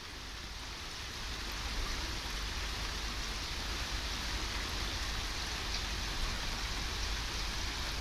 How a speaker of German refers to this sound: Über das Ganze ergießt sich, wie Licht, das über eine Landschaft fällt, als sanfter Hintergrund ein Geplätscher, das sich zu einem stetig regnenden Murmeln verdichtet.